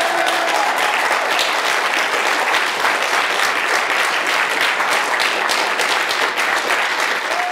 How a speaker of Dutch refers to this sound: Enthousiasme alom. We discovered gravitational waves. Applaus.